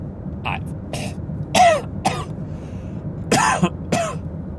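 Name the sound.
throat clearing and coughing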